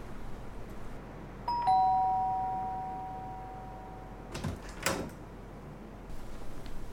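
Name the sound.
doorbell ringing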